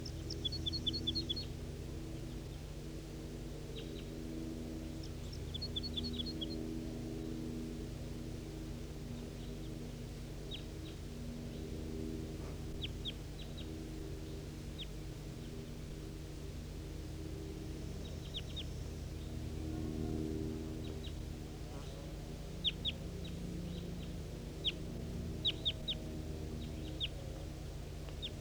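wild birds calling

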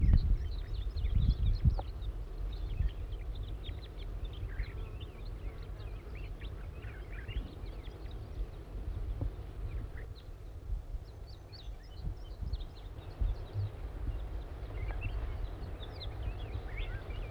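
juvenile crossbill calling

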